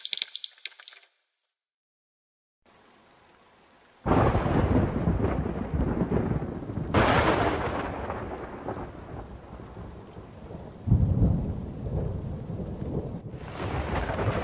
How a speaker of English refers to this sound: A fork of lightning flickered on the horizon. A storm was coming, and it was going to be a big one.